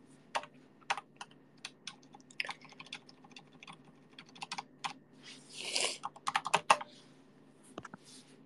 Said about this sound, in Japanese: タイピング音でかくない？